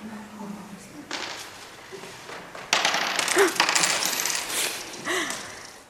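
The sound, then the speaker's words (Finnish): Several coins drop and clatter onto a hard floor in quick, irregular bursts, bright metallic ringing scattered among shuffling and faint background voices, as people walk during an exercise of trying to keep coins balanced on their toes. “So you can keep going with the coins or not.”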